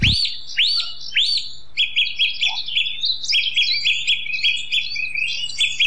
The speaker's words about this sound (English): Listening to the wonder of nature that is the Dawn Chorus in the Killarney National Park in Knockrea